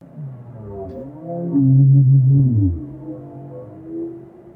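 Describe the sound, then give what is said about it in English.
Low, drawn-out whale moans with wavering, sliding tones, swelling loudest midway in a long descending cry before fading into softer calls. No talking. “That's a whale.”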